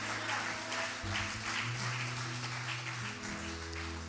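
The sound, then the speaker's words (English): An audience claps an offering of thanks to God in a steady, dense wash of applause that holds for about four seconds, with sustained low keyboard chords ringing underneath. “Give Him a clap offering of thanks.”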